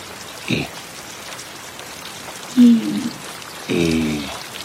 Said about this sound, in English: Rain is very beautiful today. Rain.